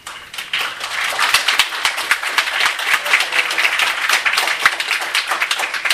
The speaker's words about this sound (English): I guess that's called a smattering of applause.